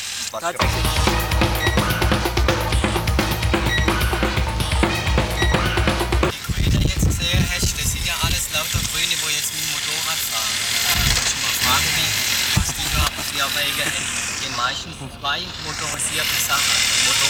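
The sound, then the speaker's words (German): A steady, low rumble of idling car engines in a traffic jam caused by an accident ahead, fairly loud and continuous, with a deep hum most prominent in the first several seconds before the sound grows more uneven. “Und wenn wir da dann stehen und im Stau stehen und zuzüglich das doppelt produzieren, dann ist besser.”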